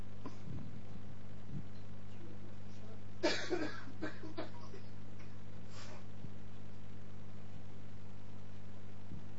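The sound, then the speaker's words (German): A short burst of coughing, two or three harsh coughs, then a softer one a couple of seconds later, over a steady low electrical hum. “Und ich hoffe irgendwie, dass jetzt trotzdem wie aller Husterei irgendwie dein Wort klar genug rübergekommen ist.”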